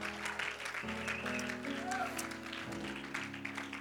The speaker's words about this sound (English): Come on, clap your hands.